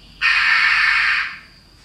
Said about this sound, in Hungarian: Ez is variféle, ez a csókának a riasztó hangja.